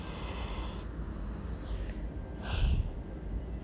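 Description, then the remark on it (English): A dog lying on its stomach with its head on a person's shoulder snores softly, with two raspy, snorting breaths about a second apart over a low, steady background rumble. No one speaks. “Listen to him snoring. Sounds so cute.”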